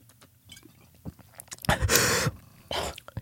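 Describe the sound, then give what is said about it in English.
A few soft clicks, then a loud, hissing slurp as Hennessy is sipped from a bottle, followed by a shorter breathy rush like a sharp exhale after swallowing. “I might take a little bit of a sip.”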